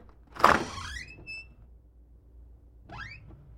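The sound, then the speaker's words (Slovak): A small door creaks slightly open: a soft clunk followed by a thin, rising squeak, then a second brief creak a couple of seconds later, fairly quiet with no voices. “A pootvoril malilinko dvierka, len toľko, aby tam mohli dva pršteky obchať.”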